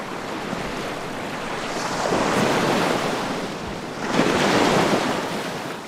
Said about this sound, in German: Die Natur wirkt unberührt. Wellen schlagen auf den Sandstrand auf. Dahinter ragt ein Fichtenwald in den Himmel.